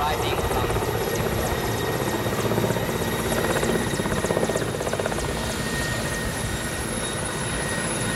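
A heavy Soviet-era Red Army helicopter on a 50-minute flight to Walikale, Congo, its rotor beating in a fast steady rhythm under a loud, continuous engine roar and whine, unbroken throughout.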